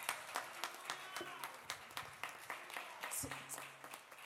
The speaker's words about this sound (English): Can we clap for Jesus, please?